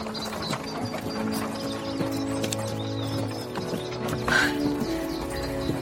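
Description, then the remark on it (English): Horse hooves clip-clop in a steady, unhurried rhythm, accompanied by continuous rattling and creaking mechanical noise and a low steady hum, on the approach to Mountby Drive just above Mountby. No one speaks. “Just pull to the left or the horse will walk straight up to the house.”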